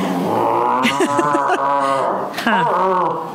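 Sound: puppy making noise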